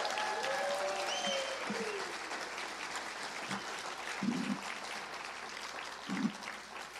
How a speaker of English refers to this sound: Thank you guys so much. You've been lovely. One more big, enthusiastic round of applause for our girl,